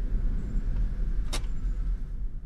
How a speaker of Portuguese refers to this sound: Um pouco mais tarde, o carro do deputado Macema estaciona na frente da casa da tia Lília.